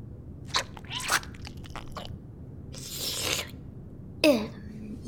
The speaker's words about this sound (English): We were just doing some eating, right?